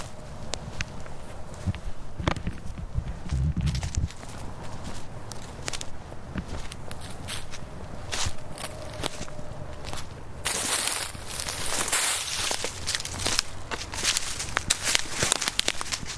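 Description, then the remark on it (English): Footsteps crunch steadily over the ground of a small stand of woods by railroad tracks in a Minnesota neighborhood, in warm shirt-sleeve weather, recorded with the microphone turned down to the ground: a continuous run of sharp crackling steps with rustling debris underfoot, moderately loud and without any voices. “Where I'm walking right now, I just turned the microphone down to the ground so you could hear the, you know, the wonking.”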